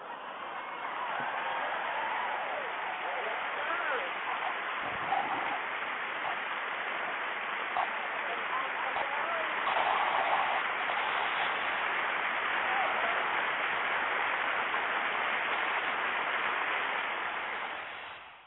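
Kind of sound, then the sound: crowd, clapping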